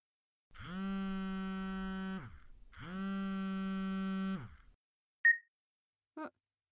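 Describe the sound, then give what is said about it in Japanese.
A phone rings with two long, buzzy electronic tones separated by a short gap, followed by two quick faint blips. No one speaks. “ちょっと電話来たみたいだからそのまま舐めてろ。”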